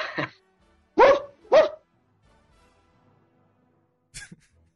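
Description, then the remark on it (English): The starting quarterback of the Jacksonville Jaguars imitates a dog's bark, barking back at his dog in the background: three loud woofs in quick succession, then after a brief silence one short, sharp yelp-like bark. “started barking back at the dog.”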